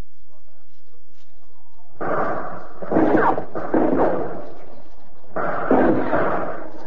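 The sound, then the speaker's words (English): Four heavy hand grenade explosions boom one after another at uneven intervals, each a loud, broad blast followed by a rumbling decay, with a brief quiet gap before the last one. The grenades are dropped through holes in the roof of the Alcatraz cell house over cell block D by Alcatraz guards and US Marine Corps veterans. “Through the roof, Alcatraz guards and Pacific veterans of the United States Marine Corps drop hand grenades.”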